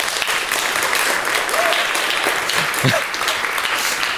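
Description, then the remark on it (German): An audience claps steadily for several seconds, a dense, continuous patter of applause, with a few faint voices briefly audible beneath it. “Bitte einen Applaus für das Log.”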